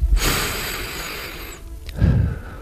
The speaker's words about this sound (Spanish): Quiero oír la respiración del invitado, de este hombre que tiene 4 premios Ondas y que tiene una voz que han oído nuestros oyentes durante muchos años, a muchas horas diferentes.